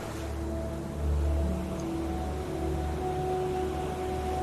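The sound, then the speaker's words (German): Steady wash of sea waves on a beach at Skagen, a continuous hiss with a deep rumble swelling briefly, plus faint droning tones underneath. No voices. “Ja, das waren die 10 Minuten in Skagen am Strand und am Meer.”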